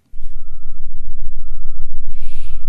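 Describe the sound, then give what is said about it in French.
A deep, muffled truck engine rumble, as it would sound on Mars, throbs steadily throughout, with a brief airy hiss near the end and no voices. “Tout est plus étouffé.”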